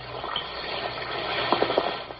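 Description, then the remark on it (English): An Alka-Seltzer tablet fizzes in water with a steady hiss of tiny bubbles, broken by a few brighter little pops and splashes toward the end. “Listen to it fizz.”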